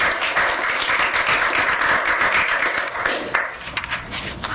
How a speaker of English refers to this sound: Please give everyone a round of applause and thank you all for coming.